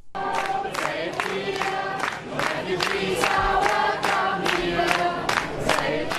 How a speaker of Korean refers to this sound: 이들은 이에 더해서 따뜻한 환영까지 받았습니다. 5일 독일 살페이트 주민들이 기차역에 내리는 난민들에게 환영 노래를 불러주는 것을 들어보시죠.